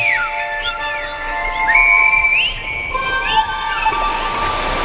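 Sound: human whistling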